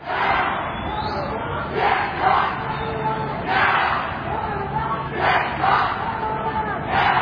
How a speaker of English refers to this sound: Protesters took to the streets Saturday in St. Paul outside of the state fair, yelling, quote, pigs in a blanket, fry them like bacon, end quote.